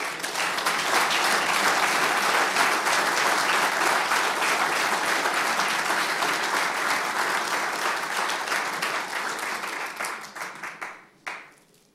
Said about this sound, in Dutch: En jou komt een groot applaus toe vanuit deze gemeenteraad.